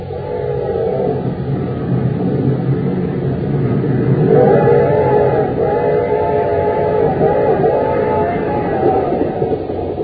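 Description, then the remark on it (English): A fast express train roars loudly and steadily on its way into Acme City, its low heavy roar continuous throughout, with a brief horn-like tonal wail rising over the clatter midway. “We find them now on a fast express train roaring into Acme City.”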